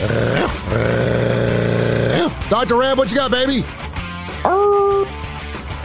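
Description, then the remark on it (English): A dog growls in a low, steady rumble, then lets out a series of short, wavering howls, with a person speaking to it partway through, on the radio segment Dark Side of the Pooch. “Yes, you howl so loud it knocks you off.”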